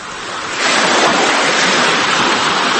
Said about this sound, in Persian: صدای موج‌های دریا همیشه همینقدر مهربان و آرامش بخش نیست. گاهی این موج‌ها زندگی را در دل خود خاموش می‌کنند.